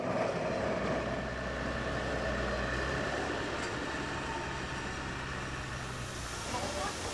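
A bus's engine rumbles steadily as it arrives at a schoolyard for departing students, a low idling drone with a faint whine, while indistinct voices murmur in the background.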